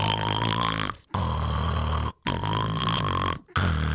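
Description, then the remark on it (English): A voice imitates loud, rasping snoring like a buzzsaw, in three long, harsh drones separated by brief pauses, forceful, with no speech. “Now, I'm expecting my wife to tell me you sounded like a buzzsaw.”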